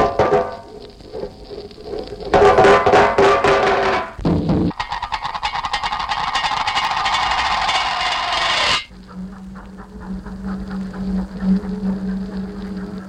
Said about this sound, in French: Un extrait de l'étude aux casseroles de Pierre Schaeffer pour introduire un autre trouble de l'esprit qui donne de plus en plus l'occasion aux thérapeutes de s'adjoindre les services de musiciens.